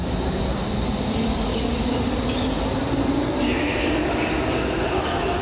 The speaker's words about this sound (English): Standing in Berlin's central train station